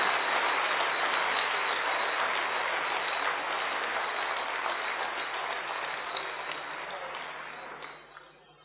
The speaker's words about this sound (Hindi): इसको कैसे निभाएंगे, हम कर्तव्य निभा के करेंगे, ऐसा जोर से ताली बजा करके वादा